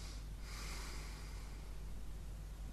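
A sleeping person, after thirty-three seconds without breathing, gives a sudden harsh gasp that swells into a long, raspy intake of breath as breathing restarts, over a steady low hum, with no talking.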